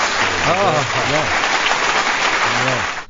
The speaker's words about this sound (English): Yeah, you know what? I think he gets applause.